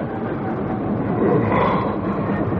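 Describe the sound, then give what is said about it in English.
A train slows as it approaches Reading, the last stop before Paddington, rumbling steadily, a dense low roar of wheels and carriage noise that holds at a constant, fairly loud level with no voices. “What's that? Train slowing.”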